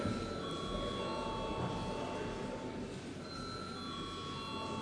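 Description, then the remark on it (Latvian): A parliamentary voting bell rings steadily for the whole stretch, called for before deputies vote on a bill in its third and final reading; a continuous bright electric tone held at a constant level, with a faint murmur underneath. “Paldies, lūdzu zvanu.”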